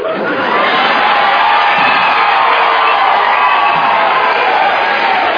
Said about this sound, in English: No, don't cheer too loud.